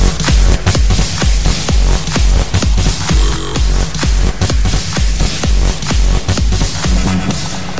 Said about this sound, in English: Then, use a crash. Snare drums can't get enough.